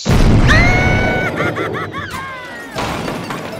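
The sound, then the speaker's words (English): A loud cannon blast booms out as a person is fired from it, followed by a high, wavering whistle-like cry that dips and wobbles, then a second rumbling burst near the end. “An intern with no coffee? Into the cannon.”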